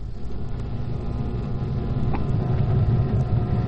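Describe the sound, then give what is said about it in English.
A low, steady engine rumble from a car driving slowly around behind a building, checking the back doors, muffled, with the idle drone swelling slightly as it rolls along. No one speaks. “Car is going around behind the building, checking the back doors.”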